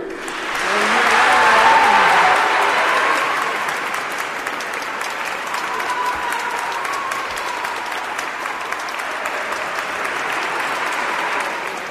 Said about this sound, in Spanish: Aplausos, aplausos que sonaron durante un largo rato y que sin duda mereció. Un pregón histórico para Illora.